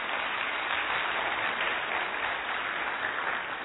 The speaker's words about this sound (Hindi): Derek Redmond इससे और ज्यादा तालियां नहीं डिजर्व करते. Can we have a round of applause for him.